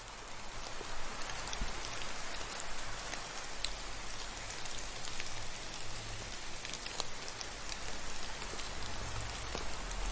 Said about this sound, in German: Etwas später wird auch der Regen und der Wind sich wieder beruhigen. Langsam in die Ferne ziehen. Leiser und sanfter werden.